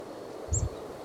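A chickadee, foraging within a meter of the ground in a dense little thicket and out of view, gives a single brief, high-pitched type 1 call note over a soft, low rustling; the rest is quiet, with no voices.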